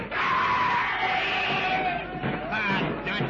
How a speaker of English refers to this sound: Suddenly, from all sides of the clearing, a screaming horde